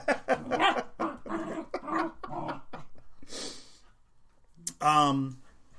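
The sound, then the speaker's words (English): Abby, a dog, grumbles and moans in a rapid string of short vocal bursts, pauses with a breathy huff, then lets out a loud, high-pitched whine near the end. “Abby is a dog that acts like a cat.”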